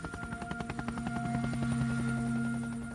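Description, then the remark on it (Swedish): A medical helicopter's rotor chops in a fast, steady rhythm over a droning engine whine, loud, the blade thumps blurring together, about 10 meters from rescuers helping a child, its downwash blowing strongly. “Väl när personalen hoppat ur helikoptern så åker den till en närliggande badplats.”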